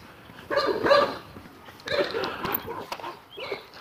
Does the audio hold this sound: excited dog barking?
yes